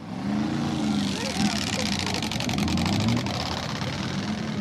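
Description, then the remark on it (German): Motorcycle engines roar steadily throughout at a biker party in Zumiswald, their deep rumble rising and falling as they rev, loud, with indistinct crowd voices mixed into the din. “Es stinkt nach verbranntem Gummi und die Motoren dröhnen.”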